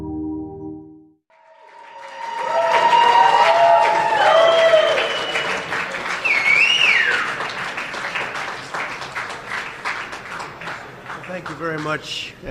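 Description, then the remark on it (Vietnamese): A brief low tone gives way to supporters of former US President Donald Trump loudly cheering and applauding as he appears at Trump Tower in Manhattan, with whistles and shouted voices rising over dense, sustained clapping that continues steadily to the end. “Những người ủng hộ cựu Tổng thống Mỹ Donald Trump đã hoan nghênh reo hò chào đón khi ông xuất hiện ở tháp Trump tại Manhattan.”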